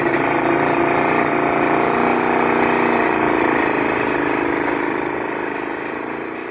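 A motorcycle engine starts and runs with a loud, steady drone as a father sets off with a child riding behind him, moving very slowly, holding an even rumble throughout before easing off slightly toward the end. No one speaks.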